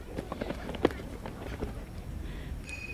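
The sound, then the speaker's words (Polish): Footsteps of a person out for a stroll, a series of soft, uneven thuds over a low outdoor rumble, with a brief high chirp near the end. “No i spaceruję.”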